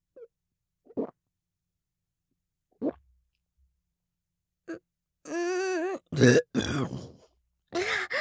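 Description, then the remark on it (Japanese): A few soft gulping swallows, then a drawn-out voiced burp followed by a louder throaty burst, with no talking. “早速座面ゲップが出てしまいましたわ。”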